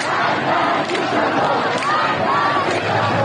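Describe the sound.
A dense crowd of protesters in the street shouts slogans together in a steady, unbroken roar, protesting the death of Mahsa Amini, with raised individual cries rising above the mass of chanting throughout.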